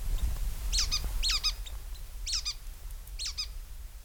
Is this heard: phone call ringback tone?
no